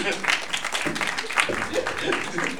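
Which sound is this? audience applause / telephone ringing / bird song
audience applause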